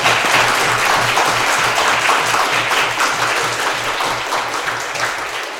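A crowd applauds steadily for several seconds, a dense, even wash of many hands clapping at once that stays loud throughout and eases off only slightly toward the end.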